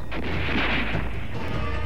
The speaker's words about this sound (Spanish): Disparos.